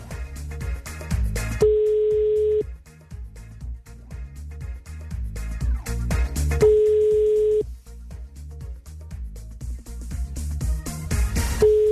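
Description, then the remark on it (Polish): A telephone ringback tone sounds twice, each a steady one-second beep about five seconds apart, heard over a busy background of music-like sounds while a radio host waits for a listener to answer a call for a cash prize game. “To w takim razie czekamy na połączenie, czekam na to, aż ktoś odbierze grzecznie. Jest sygnał, to już dobry znak.”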